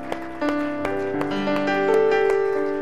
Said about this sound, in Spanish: Let's just give the Lord a hand clap tonight. Dale un aplauso a Cristo.